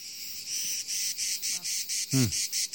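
Cicadas buzz in a loud, steady pulsing drone, beating in rapid regular bursts, with a brief bird-like chirp rising near the end, at the Calanque de Sugiton on the Mediterranean, by a pine forest.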